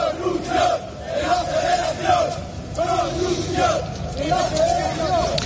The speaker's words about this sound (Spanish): Y en los campos de fútbol los gritos de los aficionados van dirigidos contra el Barça.